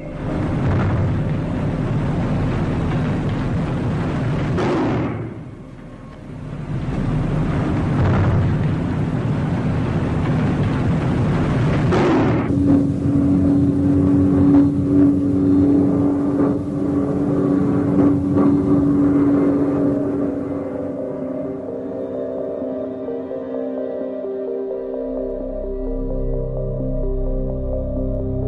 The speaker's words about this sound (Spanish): Sonidos de bombas explotando y de aviones que sobrevuelan el pueblo.